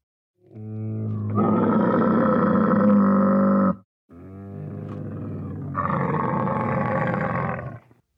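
A camel bellows in two long, loud, guttural bursts, each a deep rumbling groan that swells and holds for a few seconds, separated by a brief pause.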